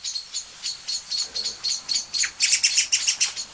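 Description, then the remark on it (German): Blackbirds and song thrushes scolding: a rapid, steady series of sharp, high alarm calls from several excited birds, all looking the same way and twitching their tails and wings, growing louder and denser toward the end, with no talking. “Und es ist nicht nur eine Amsel oder eine Singdrossel. Es sind jetzt viele, ne?”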